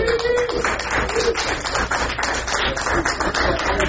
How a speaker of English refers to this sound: So we have five great people who have provided us with nibbles. Food. That should be rigorous applause. Hooray for food.